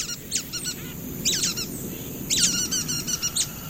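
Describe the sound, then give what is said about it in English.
A nuthatch gives quick, nasal, squeaky calls in three short bursts of rapid notes, clear over a low, steady background rumble. “A resourceful bird, the nuthatch.”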